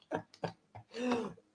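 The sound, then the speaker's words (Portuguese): Three short, dry coughs in quick succession, then a longer, voiced throat clearing, ending with a sharp bump or click; a person coughing just after starting a live stream. “Aí, por exemplo, comecei agora a live e já estou tossindo aqui.”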